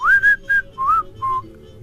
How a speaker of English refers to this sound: I'm not a good whistler either